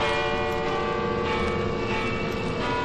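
Loud church bells in a bell tower clang continuously after breaking loose from Spider-Man's webbing, their overlapping metallic tones blending into a dense, sustained ringing wash with no pauses and no voices.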